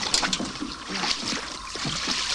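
A boat moves through shallow water with steady churning and sloshing, low scraping bumps underneath as it is driven up onto a muddy bank, fairly loud, with no voices.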